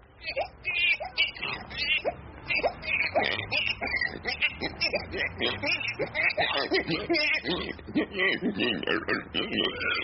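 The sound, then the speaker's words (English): A man's voice imitates a fussing baby whose cries gradually turn into snorting, grunting pig oinks, a continuous vocal performance with choppy, rhythmic bursts. “How about a baby turning into a pig?”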